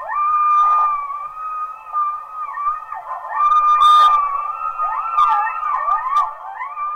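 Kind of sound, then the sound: animal, coyotes howling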